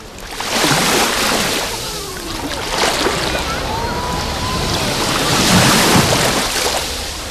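Mediterranean Sea waves wash steadily onto the beach shoreline, broad hissing surges rising and falling in loud repeated swells, with a faint whistling tone drifting through and no voices.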